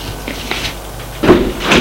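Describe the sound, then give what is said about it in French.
A door opens with a few soft clicks and a creak, then a louder scrape and thump as it swings, all without any talking. “Une porte s'est ouverte”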